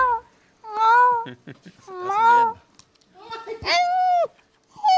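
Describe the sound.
A person imitates a cat, giving several drawn-out, high meows in a row, loud, with short gaps between them.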